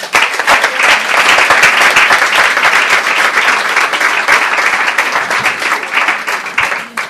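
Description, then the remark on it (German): Sustained audience applause in the small Kurhaus hall for author Franz Hubl, who opens the event, a dense crackle of many hands clapping at a steady, loud level for several seconds before tapering slightly at the end. “hier im kleinen Kurhaushalt wird von niemand geringeren als Franz Hubl eröffnet und da kann man durchaus schon einen Applaus geben.”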